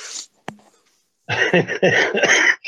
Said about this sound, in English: I'm still coughing. I'm getting a little better.